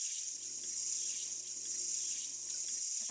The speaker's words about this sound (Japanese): ちょっと、それじゃあまずはシャワーで頭流すから。シャワー気持ちいいっしょ。